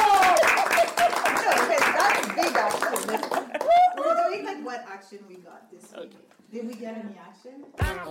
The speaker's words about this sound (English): Eh bien, on applaudit. On applaudit.